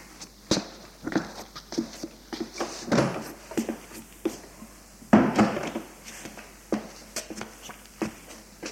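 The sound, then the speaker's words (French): A door to an office is opened amid an irregular run of wooden clicks, knocks and shuffling steps, with a couple of louder thuds standing out from the softer handling noises. “Ouvre machinalement une porte.”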